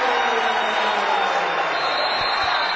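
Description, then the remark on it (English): A basketball crowd at a Dort College game against Briarcliff erupts in loud, sustained cheering after a baseline jump shot by Dalton Franken, a dense wall of roaring voices that holds steady without a break for the whole stretch, with no clear speech above it. “And you cannot hear yourself think as the crowd erupts.”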